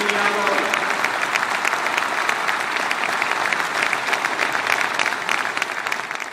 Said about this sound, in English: Today, he said, I'm announcing that soon I will submit legislation that will give the right to vote to all residents of our island, regardless of where they were born or their migratory status. And the crowd goes wild.